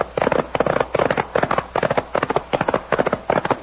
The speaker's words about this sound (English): Those shots came from just ahead of us.